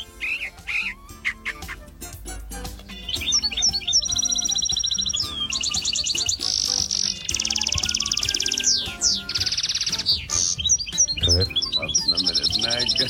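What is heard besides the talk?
bird song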